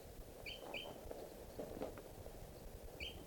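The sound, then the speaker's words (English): A flock of about five crossbills flying over and circling gives short, sharp, high chip calls: a quick pair early on, then one more a few seconds later, over a soft, rustling background hiss. “Sounds like a flock of crossbills flying over here.”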